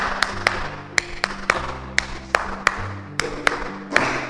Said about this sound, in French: Applaudissez.